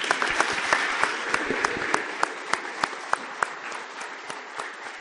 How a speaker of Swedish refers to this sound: vi ger dem en stor applåd.